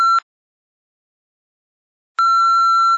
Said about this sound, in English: Please leave your name, telephone number, and a brief message after the beep, and I'll call you back.